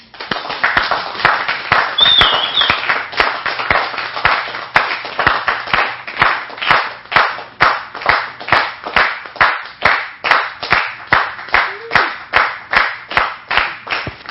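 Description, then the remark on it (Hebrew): An audience welcoming a speaker claps together in a steady, rhythmic beat, loud and sustained for about fourteen seconds, with a wash of scattered applause filling the gaps between the unified claps and no talking. “רגע, בואו, הנה אנחנו הרי באווירה הכיפית הזו, בואו חצי דקה של מחיאות כפיים מכל הלב.”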